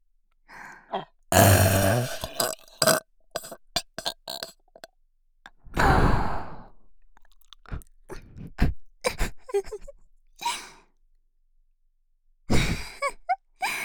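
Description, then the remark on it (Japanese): Several loud burps erupt one after another in a burping contest, the longest a deep, drawn-out belch, separated by quieter breaths and small mouth sounds, with no talking in between. “ドスケベで、エロい特大ゲップで、勝負。”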